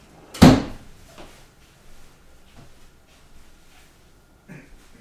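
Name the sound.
drawer being closed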